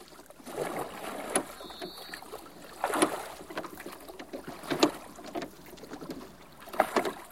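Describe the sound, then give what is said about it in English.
Captain Crossbones's small boat moves through water as he returns to Coconut Island, with splashing strokes every second or two over a steady wash of water, moderately loud, no voices. “Captain Crossbones returns to Coconut Island in his small boat.”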